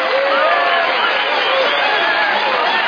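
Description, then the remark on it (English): An audience claps and cheers steadily for the full three seconds, a loud, dense wash of applause with scattered whoops and raised voices rising through it. “Stop it. Stop clapping right now.”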